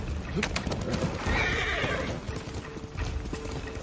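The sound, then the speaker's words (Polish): A horse whinnies loudly, a drawn-out neigh in the middle, while hooves clip-clop in a steady rhythm on a hard surface with some background noise. “No gdzie jest mój koń?”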